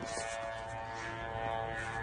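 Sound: drone buzzing in flight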